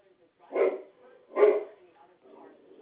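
A dog barks twice in quick succession, moderately loud, followed by softer whining or grumbling sounds.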